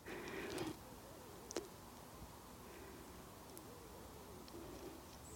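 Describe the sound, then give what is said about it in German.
Faint, soft bird calls drift, low wavering coos repeating over a quiet hiss of background noise, with a brief rustle at the start and a single faint click. “Und dann nimmst du die Schallwellen, ob es jetzt von meiner Stimme ist, die Schallwellen, oder vielleicht jetzt auch von Vögeln, die ganz ruhig sind.”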